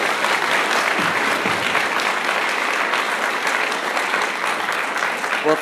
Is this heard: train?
no